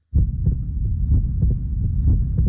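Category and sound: sound effect, heartbeat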